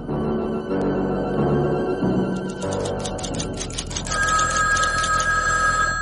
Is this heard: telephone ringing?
yes